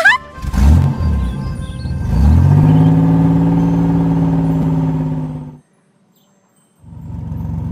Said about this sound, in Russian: Автобус приехал на остановку.